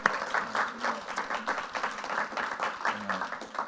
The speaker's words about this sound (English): If you could tell him get well soon, maybe just give him a round of applause or some encouragement.